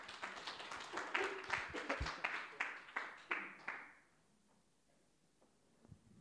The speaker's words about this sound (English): Right, I'm going to tell you off now. We've got to stop this clapping, right? Seriously.